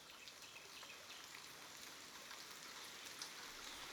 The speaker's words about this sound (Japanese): あれ、もしかして、雨？